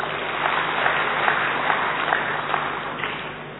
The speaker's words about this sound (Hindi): इसलिए ताली बजा दो।